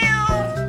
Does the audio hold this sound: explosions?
no